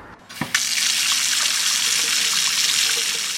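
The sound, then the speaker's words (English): A kitchen tap is turned on after a brief click, and filtered water from a filter machine under the sink runs steadily in a hissing stream for the rest of the moment with no voices. “the water coming in is filtered and it comes through there and out up into the tap thing”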